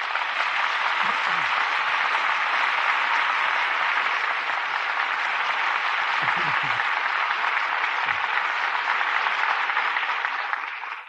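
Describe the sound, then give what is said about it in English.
Sustained applause from a studio audience for the evening's drama and its stars, Humphrey Bogart and Walter Huston, a dense steady clatter of many hands clapping for about eleven seconds at an even, fairly loud level before tapering off at the end. “For drama that rates the applause of this audience, our thanks go to this evening's stars.”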